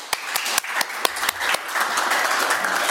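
An audience applauds to thank two speakers after a talk, a dense wash of many hands clapping, with a few sharp louder claps standing out early before it settles into a sustained, even roar of applause.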